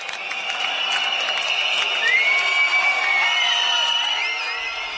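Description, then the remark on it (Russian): At a demonstration outside the Communist Party building in the Czech Republic, after a minute of silence, a large crowd erupts in sustained whistling and applause, with many shrill whistles gliding over a steady wash of clapping and cheering, loud and continuous throughout. “После минуты молчания зазвучали свист и аплодисменты.”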